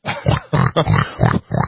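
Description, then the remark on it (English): A person imitates the siren of the pig police, voicing a rapid string of about six nasal oinks that rise and fall like a wailing siren, loud with nothing else behind them. “The pig police? What does their siren sound like?”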